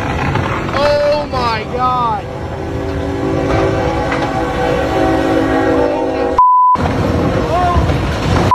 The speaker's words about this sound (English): So the train hasn't hit it yet. No. Oh, train's coming, though. The train just came down on the blade. Oh, my God.